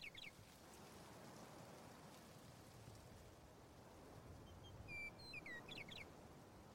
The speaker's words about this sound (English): And that bird I'm hearing... It keeps looping over itself, and it sounds like it's coming from everywhere.